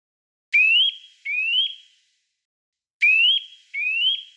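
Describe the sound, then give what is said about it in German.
A Eurasian nuthatch call: two pairs of clear, upward-sliding whistled notes, the second pair repeating the first after a short silence, sounding alone with no voices. “Jetzt also erstmal der Kleiber.”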